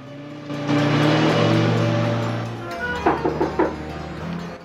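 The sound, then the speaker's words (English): A car engine roars loudly as it accelerates, its steady drone giving way to a few quick revving surges before the sound begins to ease off as the car speeds off down a road. “He gets into the car and speeds off down the road.”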